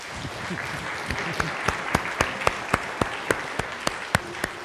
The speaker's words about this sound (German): Wir klatschen alle deinetwegen. Wunderbar. Sehr schön.